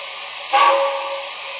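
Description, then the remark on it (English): A passenger train arriving from St. Louis pulls into a station on track 1 as train number 24: a steady rumbling hiss swells with a brief burst of steam and a faint whistle-like tone, then settles back into the continuous churn. “Now we're arriving from St. Louis on track 1. Train number 24, the Knickerbocker.”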